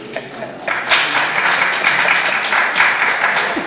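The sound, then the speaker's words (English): A class in a Bible lesson bursts into applause for a student who gave a correct answer, a dense, steady patter of many hands clapping that swells quickly and holds at a fairly loud level for several seconds. “Give her a clap.”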